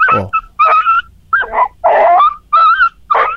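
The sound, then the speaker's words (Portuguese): A dog in Itapecurumirim whimpers and yips in a rapid series of about six short, high, whining cries, fairly loud, with no talking. “O cachorro, inclusive, antes do seu falecimento, ele prestou esse depoimento aí.”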